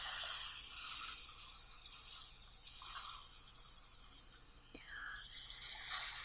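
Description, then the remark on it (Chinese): Gentle sea waves wash over sand, washing away names written in it, in a soft, steady hiss, swelling and receding a few times at low volume, with no voices. “你想把我们俩的名字写在一起，一起被海浪带走。”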